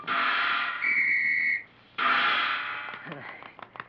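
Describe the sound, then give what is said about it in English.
A single shrill, steady whistle blast lasting under a second, fairly loud, blown by a performing seal during a ball-tossing trick, sounding over a continuous rushing noise that drops away briefly and then returns. “I toss this ball high into the air, turn a somersault, blow a whistle, and catch it on my nose.”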